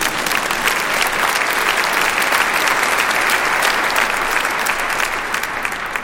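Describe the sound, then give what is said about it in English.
An audience at a church sermon claps steadily for about six seconds, a dense, even wash of many hands with no voices standing out and no pause in the applause. “I think you ought to clap there if you're awake.”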